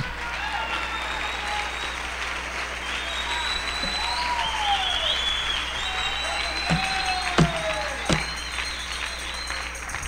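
An audience applauds for God at the preacher's request, steadily for about ten seconds, a dense, even wash of clapping with a few sharper claps standing out and scattered voices calling out over it.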